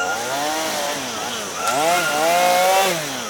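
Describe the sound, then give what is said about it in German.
A chainsaw clearing tropical rainforest in South America buzzes steadily for a few seconds, its whining pitch dipping and surging as it revs harder around the middle, loud and continuous with no voices. “Der Wald wird gerodet.”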